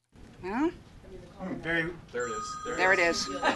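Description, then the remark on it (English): A phone rings with a steady electronic tone partway through, in a room at Caltech in Pasadena, sounding under several people talking excitedly at moderate volume. “That was your phone ringing.”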